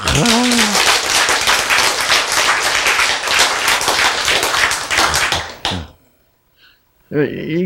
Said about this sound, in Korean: 여러분 박수.